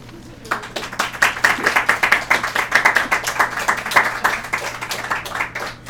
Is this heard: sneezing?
no